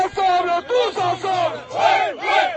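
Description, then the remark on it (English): A crowd of demonstrators at a union-organized Day of Solidarity march against cost-cutting measures chants loudly in unison, shouting "yes" over and over in a steady, rhythmic pattern, with about five or six bursts in quick succession. “Here, demonstrators are shouting, all together, yes, yes, yes.”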